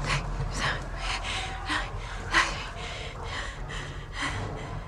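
CPR in progress on a limp man: effortful gasps and pants in a steady rhythm of about two per second, with breathy bursts marking each heart compression and mouth-to-mouth breath. No talking.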